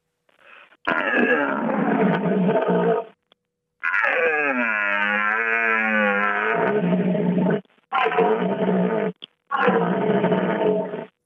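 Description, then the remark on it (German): A person imitates the roar of a dominant rutting stag: several long, loud, guttural bellows with rising and falling pitch, separated by short breaths, with no speech. “Ja, so klingt das, wenn die Hirsche dann voll Luft holen und dann in den Nachthimmel des Waldes rufen.”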